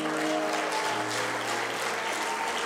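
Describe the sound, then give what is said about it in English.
An audience claps for the Lord in a steady, dense round of applause that holds at an even loudness throughout, with a low sustained organ-like tone humming underneath. “You know, that hand clap was a little bit louder when y'all said it was for me.”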